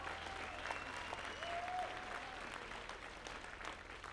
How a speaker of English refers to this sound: They're on tour with us, so if you could give them a round of applause.